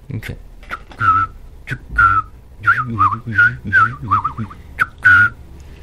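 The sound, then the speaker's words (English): A person whistles an imitation of a scarlet tanager's call with pursed lips and no electronics: a string of short, burry phrases, about eight or nine quick notes in a choppy rhythm, fairly loud. “you got any calls you want to do? Something that you might see there? What's there now that you can like you mentioned, scarlet tanagers.”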